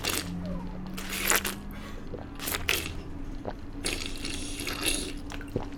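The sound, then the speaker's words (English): A few wet slurping sips from a drink come in short, breathy bursts with pauses between, over a steady low hum and no talking. “I just need to take another sip.”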